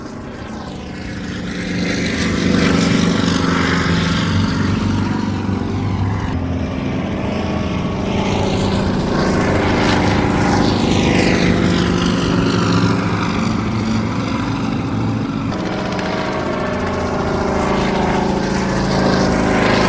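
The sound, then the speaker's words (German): A loud propeller aircraft, an old plane flown from Hangar 7 at Salzburg Airport, Austria, drones steadily overhead, its engine tone swelling and sweeping in pitch as it passes, with a rich, throbbing low rumble throughout. “Alpha Jets, die Mitchell, Hubschrauber, Turboprops, alte Flugzeuge aus den 40er Jahren, 50er Jahren, wunderbare Klänge, alte Turboprop-Motoren”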